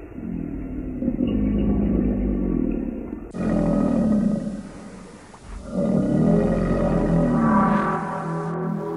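A giant crocodile snorts and growls as it comes closer, in deep, rough, rumbling bursts, loud and sustained with brief dips between, and no voices present.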